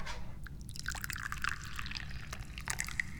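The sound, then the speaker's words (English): Dahong Pao tea pours steadily into a cup, a continuous liquid stream with bright gurgling splashes and small drips, heard on its own with no one talking. “I'm the chairman of this committee, and I'm pouring tea, because that's what I do.”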